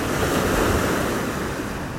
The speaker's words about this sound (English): Just breathe with the sound of the waters coming in and out.